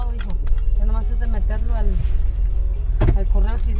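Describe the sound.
Steady low engine rumble fills a car cabin during a ride through Boyle Heights while voices talk over it, with a couple of brief clicks and rattles near the end.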